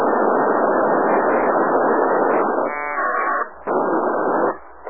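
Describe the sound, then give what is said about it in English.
A loud, harsh burst of packet radio data fills the channel with dense buzzing static, shifting into a warbling tonal stretch partway through before cutting off in short drops. No voices. “Hey, who's got the packet?”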